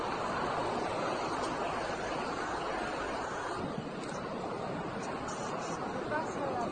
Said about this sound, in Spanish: Mira cómo se va viendo ya por aquí el agua de las cascadas, de la cascada.